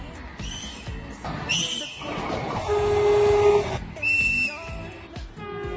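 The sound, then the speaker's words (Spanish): A Feve metre-gauge train on the Ferrol–Oviedo service sounds a series of whistle toots at stations where it does not stop: a couple of short high-pitched blasts, then a longer steady lower note, then more high toots, over a continuous rumbling background. “En algunas de las estaciones donde no tiene parada, esa recopilación de pitidos la deja en TikTok la cuenta El Peor Trenero”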